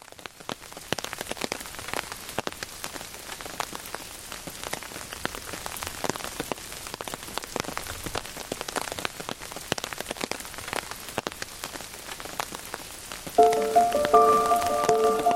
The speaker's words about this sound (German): Geräuschen, die wie Peitschenschläge klingen, prasseln Regentropfen auf deine Kapuze. Du ziehst sie etwas enger, dann setzt du deine Wanderung fort.